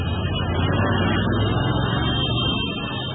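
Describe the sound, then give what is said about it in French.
A parade of hundreds of motorcycle taxis through the streets, held by football supporters celebrating the national team's Africa title: a dense, steady drone of many small engines blending into one continuous low rumble that stays loud and even throughout, with no voices. “Parade de centaines de mototaxis.”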